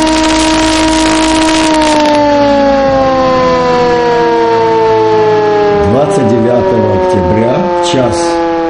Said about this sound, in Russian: Боевая тревога.